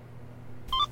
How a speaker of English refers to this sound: What's that? Just got a notification.